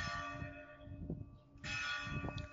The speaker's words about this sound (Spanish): Este es el toque de campanas de nuestra iglesia parroquial de Los Milagros, que nos acompaña a todos los alangeños y alangeñas durante toda nuestra vida.